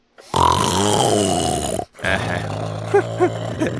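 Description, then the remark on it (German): A voice imitates loud snoring of the puppet character Seppel lying on the sofa: two long, rasping, throaty snores separated by a short breath pause, the second one wavering and wobbling in pitch as it drags on. “Auf dem Sofa liegt der Seppel und dort schnarcht er, dass es knarrt.”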